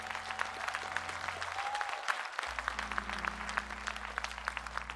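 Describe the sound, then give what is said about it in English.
The Good Hope audience breaks into sustained applause for the pastor, dense overlapping clapping that stays steady and full for the whole stretch, with low held keyboard tones humming underneath that drop out briefly partway through. “Can we give him one more thunderous applause?”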